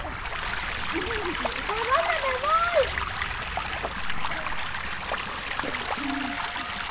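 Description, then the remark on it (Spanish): River water trickles and flows steadily, a broad continuous wash with faint splashing throughout, while voices murmur in the background; people come to the river to wash and bathe horses, and a woman and her three children are washing. “Niñas y niños, estamos en el río.”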